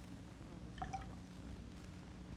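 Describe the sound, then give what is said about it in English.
A short splash of water trickling into a glass, adding water to tune it against a second bowed glass, a few bright liquid plinks lasting under half a second, quiet over a steady low background hum, with no talking. “Now here's a little bit more water.”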